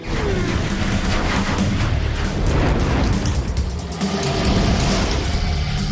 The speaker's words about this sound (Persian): گرچه به نظر بعضی‌ها صدای بلند و تهاجمی نوت اگزوز کمی غلط انداز بود.